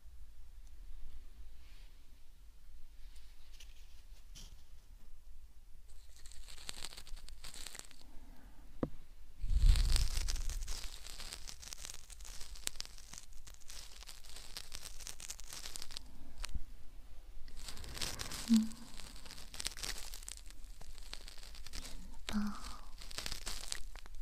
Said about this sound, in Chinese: 轻轻地刮着你的耳道，沙沙的声音